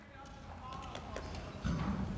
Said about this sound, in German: Im abendlichen Sonnenlicht fahren wir nach Lemgo, um einem Voltigierteam beim Turniertraining zuzusehen. Ein Pferd läuft im Kreis an einer langen Leine, der sogenannten Longe.